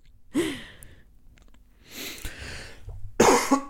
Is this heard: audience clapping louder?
no